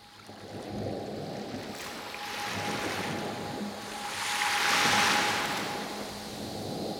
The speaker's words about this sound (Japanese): 朝10時と夜10時、同じ砂浜を録音し、朝の方は高い音、夜の方は低い音をそれぞれ混ぜ合わせ、音階で言うと G シャープの音を強調させて、自然環境音を音楽寄りにした作品です。